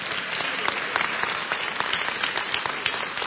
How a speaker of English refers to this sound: Clap for Jesus.